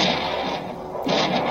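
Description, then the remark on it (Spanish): A gunshot sound effect for a bandit ambush on a caravan at dusk in which a man is shot: loud, harsh bursts of noisy blast, dipping briefly before a second sharp explosion near the end, with no one talking. “Pero de repente, Warner recibió un disparo”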